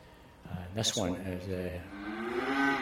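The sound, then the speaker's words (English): Cattle mooing inside a new extension cattle shed built for the winter and laid out for heifers: several long, drawn-out moos overlapping one another, fairly loud, with a low rumble of the herd underneath, while heavy wind and rain fall outside. “What I'm doing is that they've built a new, an extension shed to the existing cattle shed, as it were, for the winter.”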